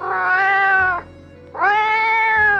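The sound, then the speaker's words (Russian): A cat with a rope tied around its neck, being dragged by a boy, meows twice: two long, drawn-out, strained cries separated by a short pause, loud with no talking. “Видит, поймал мальчишка кота, обвязал веревкой шею и тащит.”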